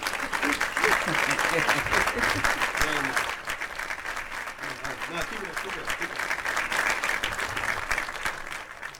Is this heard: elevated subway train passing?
no